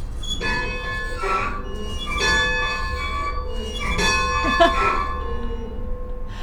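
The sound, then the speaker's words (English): The bell of a 110-year-old train engine outside a train museum is pulled by hand and clangs in several slow, heavy strokes, each ringing out with bright overtones that linger and overlap over a low background rumble. “But let's get back to the train museum, which has a beautiful 110-year-old train engine out front, complete with a bell you can ring.”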